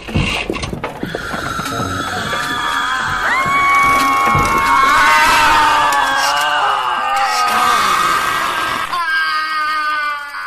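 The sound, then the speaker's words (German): Many clocks scream at once in a loud, dense chorus of shrill, wavering cries that overlap continuously for about nine seconds, then cut off abruptly, leaving a few thin tones ringing. “Ich bin schreiende Uhren gewöhnt.”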